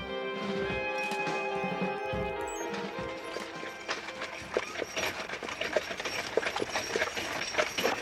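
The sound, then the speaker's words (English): Horses walking at a slow, steady pace, hooves clip-clopping, with a wagon creaking and rattling behind them; a high squealing creak stands out early on. “Scotty, walk now. Why horses? Because they're slow.”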